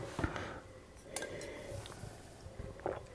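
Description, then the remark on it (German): Wine glasses clink together in a toast, a few light, bright taps spread over a couple of seconds, fairly quiet against a low room background with no one speaking. “Erstmal Prost.”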